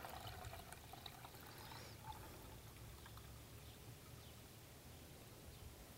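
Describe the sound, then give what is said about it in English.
Water pours steadily into a 4-cup (one liter) measuring cup for several seconds, a continuous splashing rush with no one talking. “That's how much a liter of water is.”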